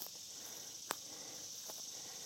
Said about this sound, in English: Mostly cicadas in the background